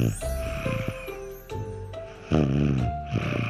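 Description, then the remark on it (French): Exaggerated, cartoonish snoring of a slug asleep on the ground: rumbling, raspy breaths rise and fall with steady whistling tones layered on top, fairly loud and with no talking. “Elle s'est endormie à même le sol.”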